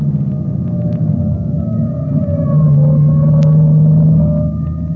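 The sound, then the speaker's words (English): The siren of a passing fire-department salvage squad wails with long, sustained, slowly gliding tones over a steady rumble of traffic. It is fairly loud and grows slightly stronger as it passes, and no one speaks. “That siren is clearing the way for it. Let them get by. That's the salvage squad.”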